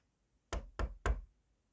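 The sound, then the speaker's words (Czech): Three firm knocks on the wooden door of a cottage, evenly spaced, each a sharp thud with a short woody ring, with quiet around them. “Dlouho tak spolu spokojeně žili, až jednoho dne kdo si zaklepal na dveře.”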